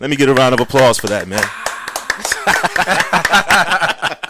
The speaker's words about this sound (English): Let me get a round of applause for that, gentlemen.